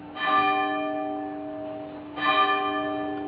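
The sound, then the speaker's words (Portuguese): A church bell in Óbidos, Portugal, tolls twice at noon, each strike ringing out with rich, sustained harmonic overtones that slowly decay before the second stroke lands. The ringing is clear, with no voices. “Estão ouvindo o lindo dobrar do sino aqui em Óbidos, Portugal. Agora é meio-dia.”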